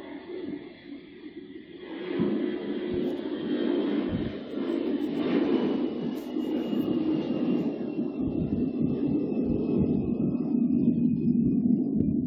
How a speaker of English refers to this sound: Oh, there's another loud plane.